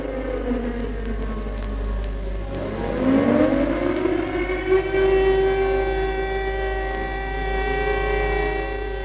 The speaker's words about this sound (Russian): Сирены противовоздушной обороны были задействованы, но их вой раздался лишь тогда, когда на город уже начали падать первые бомбы.